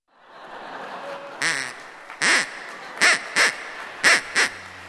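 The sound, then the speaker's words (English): A stand-in duck, used in place of the Ig duck, quacks six times in short, loud, nasal bursts, the first a bit separated and the rest coming in quick pairs, heard over a steady background hum with no talking. “So I'm sorry, there's no Ig duck tonight, but instead, I have a nice stand-in.”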